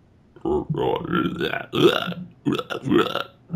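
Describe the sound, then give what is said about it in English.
Two long, drawn-out forced stunt burps, a spur-of-the-moment voice test for the character Waspinator, loud, the first stretching nearly two seconds before a brief pause and a second croaking belch. “Waspinator needs Maurice LaMarche to stunt burp for him.”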